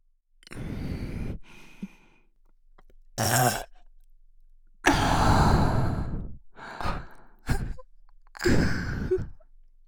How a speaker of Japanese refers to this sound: 魔女の魅了付き、吐息多めのエロゲップ。お耳から脳を揺さぶられるような衝撃。